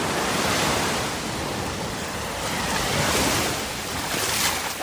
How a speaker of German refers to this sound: Aufbrausend, windig und wellig an der Küste von La Parrette im Südwesten von Fuerteventura liegt dieser Hotspot für Surfer und Wellenreiter.